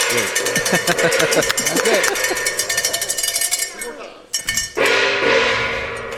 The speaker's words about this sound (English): And, hey, we got to bang that gong, folks. Please, go ahead. Go ahead, boys. Go hit that gong.